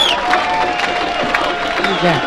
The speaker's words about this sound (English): The crowd's going crazy. I don't think they're going to let him go.